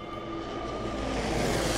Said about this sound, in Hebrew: שוב מטוסים באוויר.